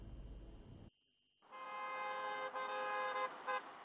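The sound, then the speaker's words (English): Low traffic rumble, a brief pause, then a loud, sustained chorus of overlapping car horns blaring together, swelling and dipping as several drivers keep honking at once, in a traffic jam on UK roads caused by protesters demonstrating over rising fuel prices. “Roads in various parts of the country have seen traffic jams as protesters take action and call for cuts in fuel tax.”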